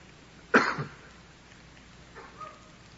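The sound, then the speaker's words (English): A single sudden sneeze bursts out loudly and then dies away quickly. It is followed by a couple of faint, brief rustles, and no one speaks. “Bless you.”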